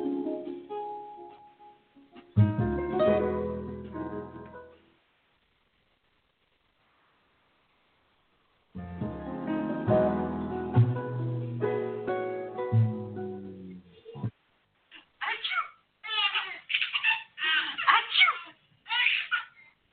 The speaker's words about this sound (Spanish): Se preguntarán por qué estoy colocando estos sonidos de bebés, de esas risas contagiosas, y es por una sencilla razón.